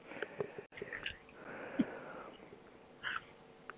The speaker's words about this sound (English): Laughing and eating your apple over there. I can hear you crunching away.